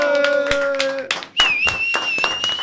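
Audience applause, a steady patter of many hands clapping, joined by a sustained low musical tone that gives way midway to a higher, wavering whistle-like tone over the continuing claps.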